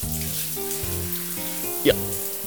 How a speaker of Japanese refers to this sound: シャワーかけるわよ。